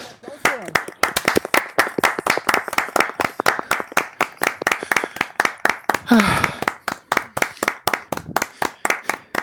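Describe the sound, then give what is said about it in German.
Steady, rhythmic hand clapping, a few claps per second continuing for several seconds, with a brief voice breaking in partway through. “Ich will Applaus hören.”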